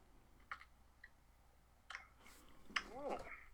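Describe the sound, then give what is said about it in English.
Quiet sips of Full Sail Amber craft beer: a few soft wet clicks and slurps spaced apart, then a swallow followed by a brief voiced murmur of satisfaction. “Otherwise, I drink a nice... craft beer, like Full Sail Amber, like I'm drinking right now. This is my second sip.”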